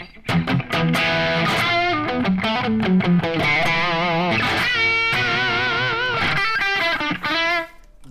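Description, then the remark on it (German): An electric guitar plays through a British-voiced amp with light, crunchy distortion, picking a mix of chords and melodic single notes at steady volume, clear, with no voices. “Wäre jetzt für mich definitiv kein Lead-Sound, weil halt so wenig Verzerrung fehlt.”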